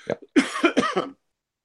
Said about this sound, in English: I've got to get a drink so I don't start coughing too much.